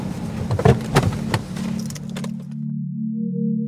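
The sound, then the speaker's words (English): A steady low rumble of traffic on a main road passing by a house hums throughout, with a brief jangle of keys and a few sharp clicks near the start before the drone carries on alone. “There was a huge beige barn to the left, and the house was off a main road, so there was a lot of traffic going by.”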